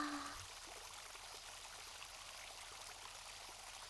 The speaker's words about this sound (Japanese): 窓の下は川なんだね。これだけ近いと涼しくてエアコンつけなくても大丈夫かも。